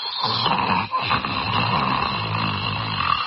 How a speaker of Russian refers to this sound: Сзади, в нескольких шагах от аптекарши, прикорнув к стене, сладко похрапывает сам Черномордик.